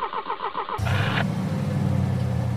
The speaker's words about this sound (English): I got in my faithful old automobile and listened to the engine roar to life.